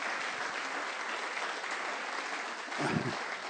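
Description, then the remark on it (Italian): An audience applauds steadily for Jesus during prayer, a dense sustained clatter of many hands for several seconds, with a brief swell of louder clapping near the end. “Facciamo un applauso a Gesù.”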